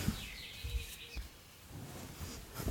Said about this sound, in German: Übrigens höre ich die ganze Zeit bei dir so einen scheiß Vogel piepen, ne? Der wird die ganze Zeit auf der Aufnahme sein.